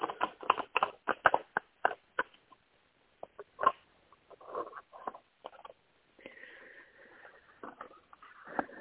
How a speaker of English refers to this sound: Okay, let me shuffle the cards.